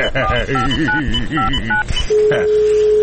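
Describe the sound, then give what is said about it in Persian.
A rapid run of about eight telephone keypad dialing tones beeps over a busy background of voices, followed by a steady, continuous line tone that holds to the end. “این دفتر تلفونه کو؟”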